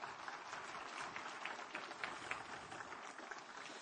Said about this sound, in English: Come on, everybody stand up this morning. Would you do that? Give the Lord a good clap offering while you're doing that. Would you? Come on.